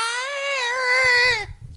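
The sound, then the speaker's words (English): A person imitates a peacock's scream with one long, loud, nasal wail held at a steady high pitch that sags slightly as it cuts off, followed by faint low rustling. “The peacock noise is crazy. What's it sound like?”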